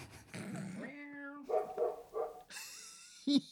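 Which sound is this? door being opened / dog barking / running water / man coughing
dog barking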